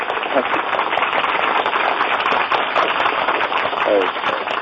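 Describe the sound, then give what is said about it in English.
A sustained round of applause from a crowd for an impromptu guest, steady and loud throughout, with a few whoops and cheering voices rising briefly above the dense clapping. “Is that the first ever genuine round of applause you've ever had?”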